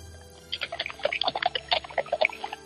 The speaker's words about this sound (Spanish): Es que está pasando la Guardia Real en estos momentos. Se escucha el casco de los caballos, sí. Perfectamente engalanado, llega el primer escuadrón a Palacio, a Buckingham Palace.